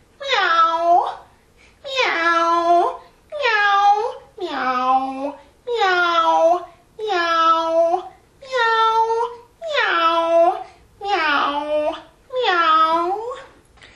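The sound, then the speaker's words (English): A human voice imitates a cat as a vocal warm-up exercise, giving about ten drawn-out, wavering meows in a steady rhythm with short pauses between them, loud. “Meow like a cat.”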